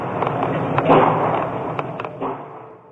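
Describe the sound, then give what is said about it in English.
A muffled, phone-quality recording of gunfire, caught on a student's cell phone during a campus shooting in Virginia: several sharp bangs at irregular intervals, heard over a steady wash of background noise. “The sound of gunfire was caught on a student's cell phone.”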